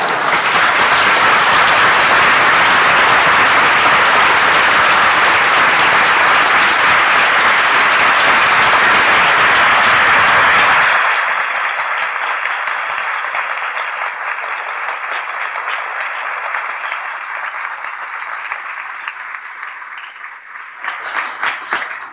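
A loud, dense burst of audience applause fills the first half, many hands clapping at once, then thins into lighter, scattered clapping that tapers off with a few final claps.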